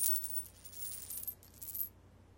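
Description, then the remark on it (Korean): A single gold coin rolls down from a pile of gold coins beside a main road and drops, giving a bright, high metallic ringing that wobbles and flutters for almost two seconds before settling into silence. No voices. “그때 큰 길 옆 금화 더미에서 금화 하나가 또르르 굴러떨어졌어.”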